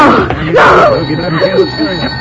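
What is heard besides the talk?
telephone ringing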